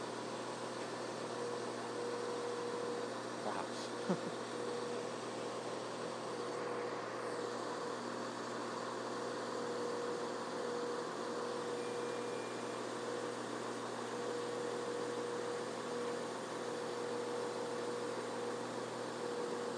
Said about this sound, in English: And the train just came in on from the Uxfield direction. It's still sitting in front here, its engine idling. And I think it's just about to pull away.